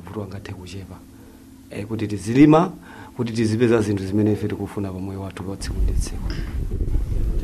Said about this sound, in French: Mais on fait le constat quand même qu'il y a beaucoup de vent et qu'il va falloir construire des maisons solides.